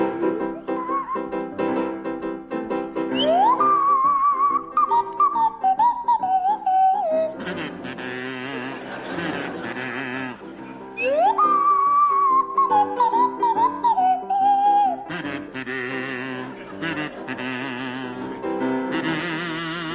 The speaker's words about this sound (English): Right, the first song is Funiculi Funicula, and it'll feature Barry Cryer on the kazoo and Graham Garden on the Swanee whistle.